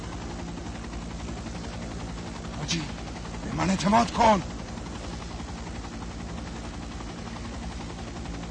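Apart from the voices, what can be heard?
helicopter rotor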